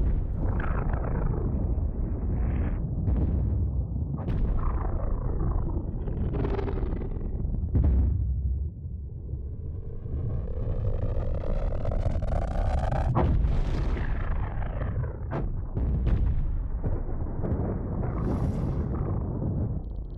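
atomic bomb explosion

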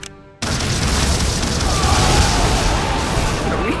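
bomb explosion

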